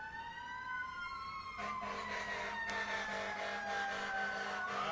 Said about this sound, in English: But here's your siren coming. Is it coming? I think it's on another street. Oh, well. Oh, wait, it's coming closer. Here comes your siren. This is your siren. Nice.